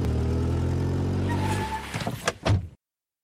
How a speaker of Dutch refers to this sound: Helaas, zwaar motorgeronk verstoorde onze nachtelijke stilte. Toen ik door de venster keek, zag ik de koplampen van een wagen op ons huis gericht.